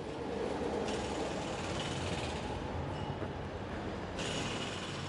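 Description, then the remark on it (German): A dense wash of city traffic noise at Zürich's Toni-Areal, under a bridge where the motorway begins, with building facades reflecting the sound; a tram's rumble and screech mix into steady motorway roar, loud and continuous throughout with no voices. “Wir haben hier eine Karambolage von Stadt, die hier zu hören ist. Das Tram, die Autobahn, die hier anfängt, die Brücke über mir.”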